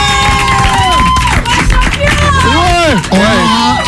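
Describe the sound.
An audience applauds and cheers the winning champion of a game loudly and continuously, with rising and falling whoops and shouting voices layered over dense clapping.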